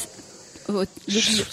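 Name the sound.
cicadas chirping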